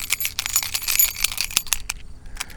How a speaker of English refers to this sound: At the sound of the jingling keys, the time will be 1930 UTC.